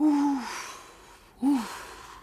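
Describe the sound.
A voice imitates a howling south wind with two drawn-out, falling moaning sounds separated by a short pause, fairly loud with a breathy hiss over them.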